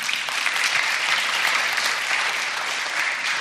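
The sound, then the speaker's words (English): A church audience applauds as a member stands to be introduced, a steady, dense wash of clapping that stays loud and even throughout, with no voices rising above it. “Now, I don't have them stand for them to get the accolade and applause and make a spectacle out of them.”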